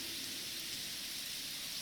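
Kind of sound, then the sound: nature, rain falling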